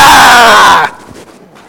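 A person lets out one loud, sustained scream, strained and harmonically rich, lasting under a second before cutting off abruptly into faint background rustling.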